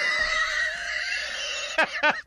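A horse whinnies in a long, high, quavering call that ends with a couple of sharp, breathy snorts, fairly loud with no one talking.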